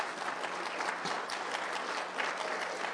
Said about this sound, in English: I just want to say, again, can I just have all the missionaries and pastors stand up? We just want to give you a big round of applause. Can you all stand up? Come on.